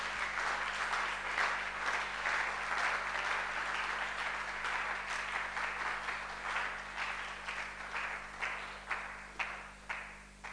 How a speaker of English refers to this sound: Are you happy? If you're happy, let's give a big clap of it.